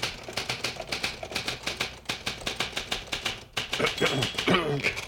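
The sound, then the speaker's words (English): Brisk typewriter keystrokes clack in a steady, rapid rhythm, continuing under a voice that joins in toward the end. “Because you see this typewriter? Yes, I see that typewriter.”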